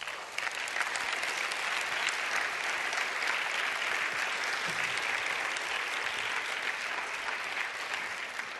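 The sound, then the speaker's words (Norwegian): Steady, dense applause from a church audience in Oslo as a 74-year-old man is brought to the front, a continuous wash of many hands clapping that holds at an even, fairly loud level throughout, with no voices standing out. “Han bæres fram på applaus.”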